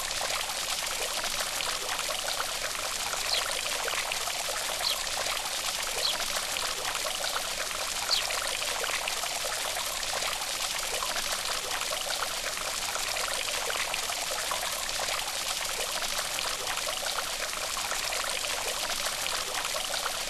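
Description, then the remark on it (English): Water from a fountain pours and trickles steadily, a continuous bright splashing wash that holds an even level throughout, with no voices or other sounds. “And look once more into the cool water.”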